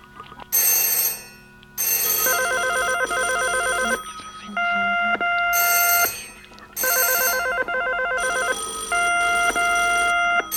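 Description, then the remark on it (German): A mobile phone rings with a repeating electronic ringtone, bursts of bright chiming tones in two cycles with short gaps between, fairly loud, no voices. “Vorerst schalte ich mal das Handy ab, weil das macht man heutzutage ja auch, wenn man höflich ist.”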